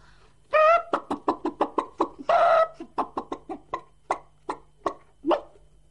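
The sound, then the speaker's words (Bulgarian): Hens cluck with a couple of squawky calls while eating a beetle, quick, sharp pecking taps rattling off in an uneven burst, fairly loud, with no talking. “Кокошките изядоха бръмбара.”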